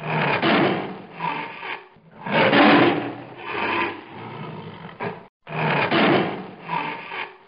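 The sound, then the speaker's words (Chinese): A group of tigers roar in a series of loud, raspy, rumbling bursts, one after another with brief pauses between them, sounding intense. Nobody speaks. “突然间唔知喺边度嚟咗一班老虎啊！”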